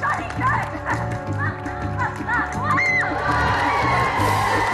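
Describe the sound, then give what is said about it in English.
A crowd of schoolgirls from Centurions school cheers and shrieks together in the audience of a TV show, a loud, continuous burst of high excited voices that swells and keeps going throughout, with no clear speech standing out. “As the girls cheer, Kelly fires the crossbow with the zip wire attached.”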